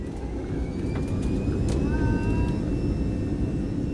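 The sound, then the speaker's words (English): A steady, heavy roar of airplane engines as the plane takes off and climbs, a dense low rumble with thin whining tones drifting above it, constant and loud. “And suddenly, as our plane pushes skyward, its engines roaring,”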